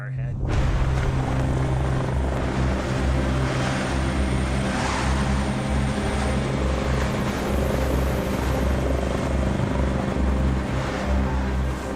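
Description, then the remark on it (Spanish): A rescue helicopter arriving a day after an avalanche: its rotors thump in a loud, steady, low drone with a broad roar of engine noise, approaching until it is right overhead and holding strong throughout without fading. “De repente escuché un sonido de hélices y se acercaba cada vez más y más cerca.”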